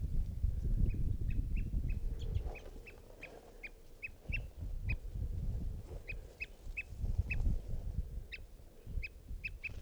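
adult male bird calling

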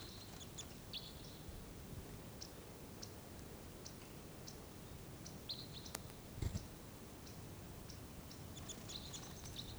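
crossbills calling

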